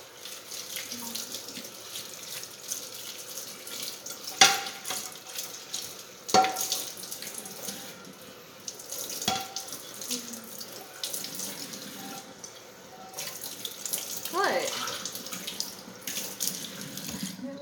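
A faucet runs steadily into a sink while dishes are washed, with a few sharp clinks of plates and cutlery knocking together at irregular intervals, moderately loud.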